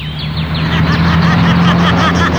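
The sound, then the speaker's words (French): A car engine drones steadily with a low hum, while rapid repeating chirps on top give it a cackling, laugh-like quality; loud, no voices. “Ce sont les moteurs qui se tordent comme ça.”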